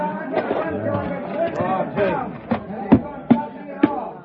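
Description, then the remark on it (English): A crowd running away: a continuous murmur of many overlapping voices, joined in the second half by a few sharp, irregular thuds that stand out above the babble. “That crowd is still running.”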